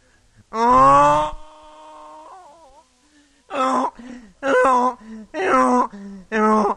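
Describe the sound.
A mule brays: one loud, harsh drawn-out call trails into a softer wavering tone, then after a pause comes a run of five rough, rhythmic hee-haw bursts.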